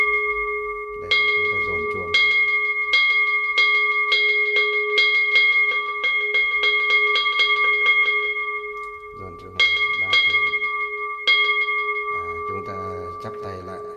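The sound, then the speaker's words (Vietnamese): A Buddhist temple bell is struck in a rapid roll of ringing hits over a sustained resonant hum, begun once the Buddhist followers and their families are seated for the ceremony. A few slower strikes follow as a voice begins near the end. “Khi chúng ta giải ra như thế này mà chúng ta nhìn thấy là các Phật tử và người nhà của họ đã ngồi vào đâu vào đấy rồi, trang nghiêm đạo tràng rồi, bắt đầu thì chúng ta mới dồn chuông.”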